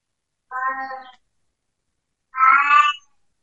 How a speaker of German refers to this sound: Will die Katze raus? Der hat da manchmal ihre Anwandlung, ihre Altersanwandlung.